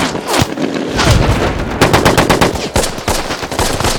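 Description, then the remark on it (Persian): Sustained bursts of rapid automatic machine-gun fire laid down as suppressive fire, loud and dense, with sharp repeated cracks in fast rhythm and a few heavier reports mixed in, continuing for the whole few seconds. “آتش بازدارنده، آتش بازدارنده”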